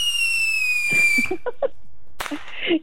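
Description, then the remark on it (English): A fireworks sound effect: a long whistling rocket tone sliding slightly downward, then a string of small crackling pops and a sharp burst near the end, with no voices. “Oh, this calls for some fireworks.”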